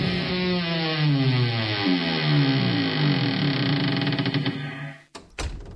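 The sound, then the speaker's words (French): A heavy wooden door, the door of Noah's ark, creaks slowly on its hinges for several seconds with a long, wavering groan, then shuts with a couple of loud thuds. “Alors Noé et tous ceux qui avaient été choisis par Dieu rentrèrent dans l'arche et Dieu fermait la porte.”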